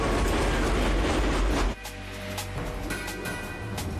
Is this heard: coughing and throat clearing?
no